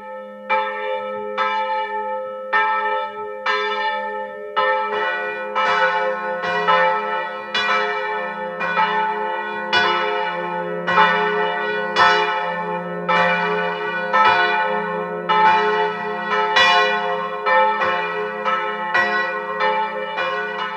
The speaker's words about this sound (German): Es ist 12 Uhr. Sie hören die Glocken der evangelischen Pfarrkirche von Unterschützen im Burgenland.